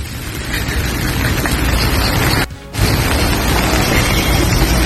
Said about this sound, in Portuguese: É isso, é porque é só chuva, é bom pra gente ouvir. Olha lá. Som de chuva, né? É, porque aí vai dormir, tem gente que dorme com som de chuva.